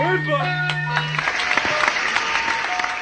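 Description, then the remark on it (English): An audience breaks into loud, steady applause, a dense wash of clapping and scattered cheers, following a brief sustained low musical tone that fades out in the first second. “Applaud.”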